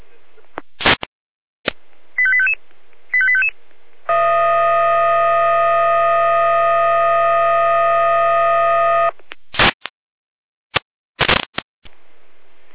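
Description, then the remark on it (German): A fire brigade dispatch alarm tone from the Jena control centre in Germany over a radio: static bursts and two short beeps, then a loud, steady buzzing tone held for about five seconds, followed by more crackling bursts. The alarm calls out a unit to several fallen trees on road L1070. “Hier leistet die Jena mit Einsatzalarm.”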